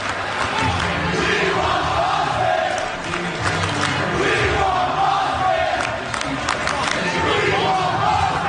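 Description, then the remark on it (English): A large crowd of Bucks basketball fans roars and cheers steadily, with dense overlapping voices and shouts holding a loud, continuous wall of sound throughout, swelling slightly in places. “And from the sound of the crowd, the Bucks fans are ready for Boston as well.”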